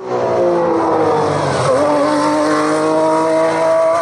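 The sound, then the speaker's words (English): A high-pitched Formula One racing car engine screams loudly and continuously, its whining harmonics shifting in pitch around the midpoint as the revs drop and climb again, with no voices present. “And here's F1 again.”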